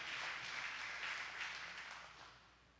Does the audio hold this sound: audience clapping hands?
yes